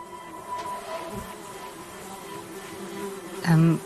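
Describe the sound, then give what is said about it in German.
A continuous drone of buzzing flies, like a swarm hovering, with a steady whine that swells into a louder buzz near the end. “Fliegenschwärme, die über Gefangene herfallen und sie bei lebendigem Leibe langsam auffressen?”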